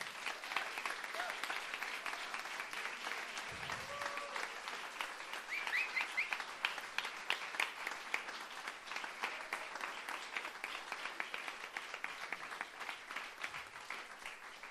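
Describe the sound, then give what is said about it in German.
Sustained applause from an audience clapping to vote on which poet goes through to the final, a dense, steady wash of many hands clapping at an even loudness for the whole stretch, with a few faint whistles or cheers mixed in. “Da klatscht ihr alle können, bitte jetzt!”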